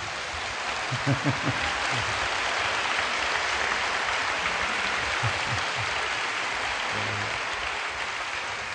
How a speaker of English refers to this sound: Well, that's a clap for the Holy Spirit. Das ist ein Klatschen für den Heiligen Geist.